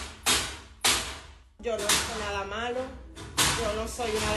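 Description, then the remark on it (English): Intelligence officers batter the lock off a front door, in a video posted on Instagram: heavy, sharp blows at uneven intervals, four loud cracking impacts in all, while a woman's raised, strained voice speaks between and over them, saying she did nothing wrong and is not a criminal. “She posted a video on Instagram of intelligence officers, and we're hearing them battering the lock off her front door.”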